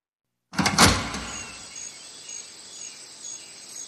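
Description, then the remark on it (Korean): The front entrance door of a camp lodging surrounded by low forest slides open after overnight rain with a loud rolling rumble and clatter, then settles into a steady outdoor hiss with faint high insect-like chirps, no voices. “현관 출입문을 열자.”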